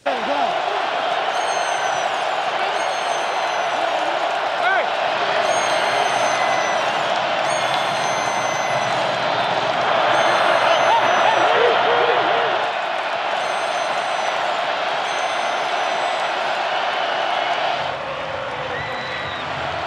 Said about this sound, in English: I don't know how it happened, but in M&T Bank Stadium, during the Chargers-Ravens game, there was a recurring, relentless, shrill air horn banshee scream like a purple vuvuzela that people were freaking about. Listen closely, and you'll hear it.